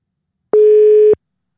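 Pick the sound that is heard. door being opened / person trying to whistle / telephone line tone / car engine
telephone line tone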